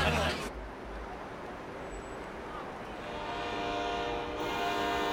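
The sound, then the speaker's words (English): A train rolls in with a steady rumble, and its horn sounds out in a long, sustained blast that swells louder as it arrives. “Okay, that's your train, kid.”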